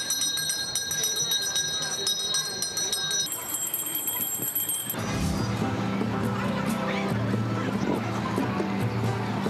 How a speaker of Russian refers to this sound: А продает его торговец у Дамасских ворот не только с веселыми колокольчиками, но и с молитвой. Когда он наливал, он молился.